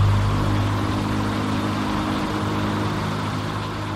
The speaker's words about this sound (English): Once the fan gets going, it will be even more important to communicate without words, as the fan makes talking or even shouting impossible.